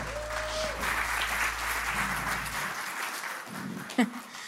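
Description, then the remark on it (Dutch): A crowd applauds in a steady, dense wash of clapping that carries through the whole clip, with a low hum underneath at first and a brief sharper knock near the end. The audience applauds as a speaker is called forward. “Applaus.”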